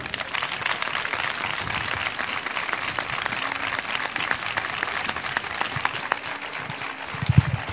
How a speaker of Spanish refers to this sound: Y este aplauso quiero que suene para Loli.